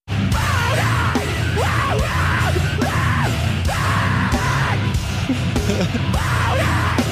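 A heavy band song plays loud and dense throughout, with thick distorted low-end instruments driving underneath harsh, wordless screamed vocals that rise and fall in repeated bursts.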